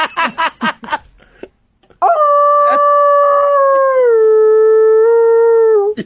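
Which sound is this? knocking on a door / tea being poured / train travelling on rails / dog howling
dog howling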